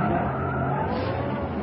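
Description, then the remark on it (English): Car tires screech loudly in a sustained skid as the car makes a half circle in the road and swings right into a street, a harsh squeal over engine roar that holds steady for under two seconds with no voices. “northwest, suddenly prescribes a half circle in the road, skidding violently.”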